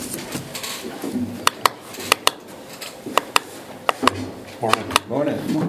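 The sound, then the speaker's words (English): Chairs knock and clatter as they're pulled up and shifted for people to sit on, a series of sharp wooden bumps and clicks, with murmured voices in the background. “Grab that chair and pull another one up if you guys want to sit.”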